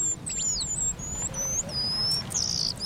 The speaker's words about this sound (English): A few times each year, the eastern paradise Waida puts on its party clothes. This small finch, found in East Africa, is just 5 inches long, with a black tail, brown back, and patterned face markings.